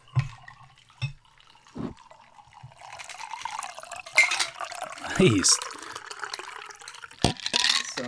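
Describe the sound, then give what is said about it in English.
A bourbon and blood orange cocktail is poured into a glass, a steady splashing trickle running for several seconds with the tone shifting as it fills, with a brief spoken word and a few clinks. “So just bourbon and blood orange. Okay. Let's get that sound effect in there. Pour that in a glass.”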